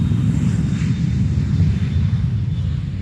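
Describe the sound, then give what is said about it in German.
A Concorde supersonic jet airliner roars overhead, a steady, heavy low rumble with a hissing edge that holds constant and loud for the whole few seconds, no voices present. “… wird nach dem Auftritt per Hubschrauber zum Flughafen gebracht und fliegt dort mit der Concorde weiter.”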